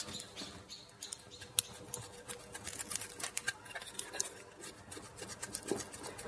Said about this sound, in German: Hört ihr das? Und ich meine jetzt nicht den Vogel. Ja, es ist wieder soweit, ich grille.